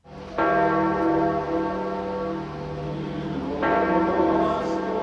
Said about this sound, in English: Accompanied by the pealing of the great bell of St. Peter's and the chant of the choir waiting ahead, the body of Pope Francis was moved closer to the public with whom he had such an affinity.